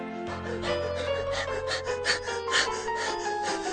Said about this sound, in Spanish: En esos momentos, Ruperto la liebre llegaba jadeante a la meta.